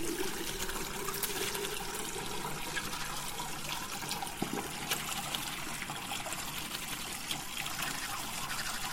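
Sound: shower water running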